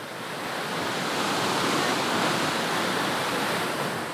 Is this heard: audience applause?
no